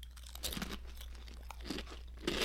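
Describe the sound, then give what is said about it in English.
Loud, crackly crunching of thick Zaps New Orleans kettle-style Voodoo Chips, from a party-size bag, being chewed, a quick series of sharp bites and brittle snaps with no talking, over a steady low hum. “So New Orleans kettle style Voodoo Chips.”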